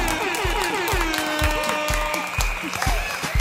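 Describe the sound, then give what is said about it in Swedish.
Steady applause from a small group applauding themselves at the New Year, with clapping going on continuously throughout, along with a few tooting horn sounds layered over the clapping. “Jag tycker faktiskt att vi ska ge oss själva en applåd och en tuta också för att vi har hållit ut det här skitåret, men med att vi har haft kul samtidigt.”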